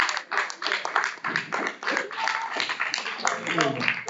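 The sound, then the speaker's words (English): An audience claps hands in a steady, continuous wash of overlapping claps, with voices calling out underneath at a fairly loud level throughout. “You got a hand clap.”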